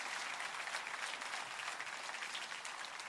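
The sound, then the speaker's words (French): An audience applauds steadily, a dense, even wash of many hands clapping that holds at a constant loud level for the full three seconds, with no voices breaking through. “Applaudissez avec moi.”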